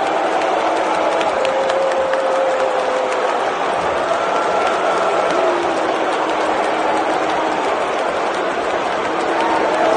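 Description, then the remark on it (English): A large arena crowd roars continuously for ten seconds, with long drawn-out booing voices rising over a dense wash of clapping and shouting, loud throughout. The crowd at a pay-per-view event is booing a video. “the sound of the crowd, which videos quickly circulated on Saturday night of them soundly booing this video.”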